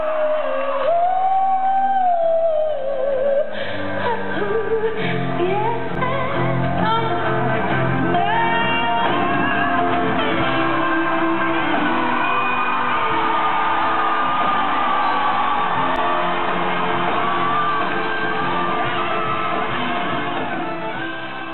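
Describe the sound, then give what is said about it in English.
A concert crowd screams, whoops and cheers loudly and continuously at the end of a singer's live song, a dense roar of many voices with shrill shouts rising above it, holding steady for about twenty seconds before easing slightly. Recorded on someone's phone. “So you watch this video and you see this singer just fully coming into her own, and the crowd and the singer, everybody just losing their damn minds.”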